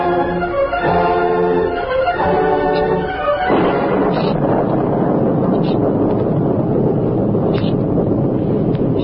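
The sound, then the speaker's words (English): A few seconds of sustained musical tones give way to a loud, steady roar of storm wind, a dense rushing noise with occasional brief gusts and whistles that continues to the end; a storm in The Lone Ranger drama, outside a cave less than a quarter of a mile from the Rio Grande. “The Lone Ranger and Tonto had found shelter from the storm in a cave less than a quarter of a mile from the Rio Grande.”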